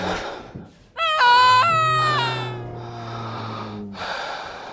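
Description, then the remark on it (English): A woman's labored breathing and gasps while giving birth in a stable, loud, with noisy breaths at the start and end around a long, strained, tonal groan that slowly fades. “Moments pass, filled with Mary's labored breathing and Joseph's whispered prayers.”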